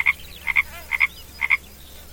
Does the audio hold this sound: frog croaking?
yes